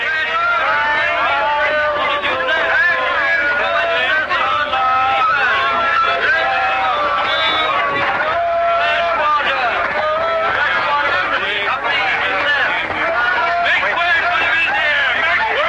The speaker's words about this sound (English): Inside, in a busy market, a potter spins his wheel as he fashions a vase. Hey, Omar and Ollie lead their horses through the teeming crowd.